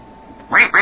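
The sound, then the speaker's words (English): Two loud, nasal duck quacks in quick succession, alone, each a short buzzy burst with the second following right after the first, from a key-pressing sound-matching game. “Let's see if we can match the duck.”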